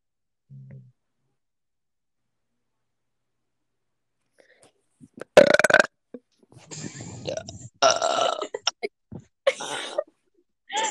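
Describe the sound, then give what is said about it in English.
A series of loud, drawn-out burps, several long rumbling belches in a row after a brief quiet start, with short gaps between them. “I can't burp anymore, otherwise I'm gonna burp up my small intestine.”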